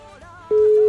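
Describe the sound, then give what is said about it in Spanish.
A loud, steady single-pitch ringback tone of an outgoing phone call to a number ending in 86 cuts in halfway through and holds, following a softer stretch of background sound. “Vale, sonando teléfono.”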